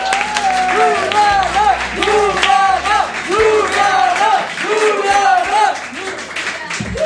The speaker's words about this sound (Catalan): Així que demano un fort aplaudiment per Juliana Canet.